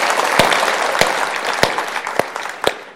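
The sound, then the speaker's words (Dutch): An audience applauds the team, a dense steady wash of clapping with a few sharper, louder claps standing out, gradually thinning and softening toward the end. No one speaks. “Zullen ze even applaus geven aan het team?”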